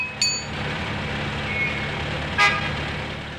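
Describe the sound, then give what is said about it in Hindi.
A vehicle engine rumbles steadily throughout while two short, sharp horn toots sound, one near the start and another a couple of seconds later, loud, as the driver turns the vehicle back toward Unnao. “अच्छा तो चलो भैया ड्राइवर, गाड़ी वापस उन्नाव।”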